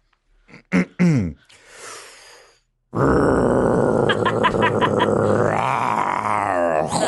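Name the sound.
voice imitating a chainsaw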